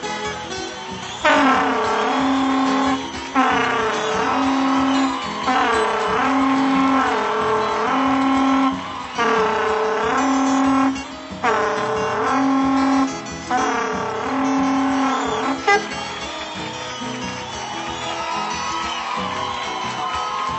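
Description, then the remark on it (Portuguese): A berrante cattle horn, played by a horn caller, sounds the 'queima do alho' call announcing the meal is ready: a rhythmic run of about seven loud, brassy blasts, then a longer wavering tone, with no one talking. “Aí o berranteiro anuncia com o toque queima do alho.”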